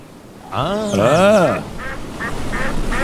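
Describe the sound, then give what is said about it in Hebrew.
A loud, drawn-out nasal duck quack rings out, followed by a few shorter, softer quacks in quick succession over a steady outdoor background hiss. “מה קורה? הברווזים כבר הייתה”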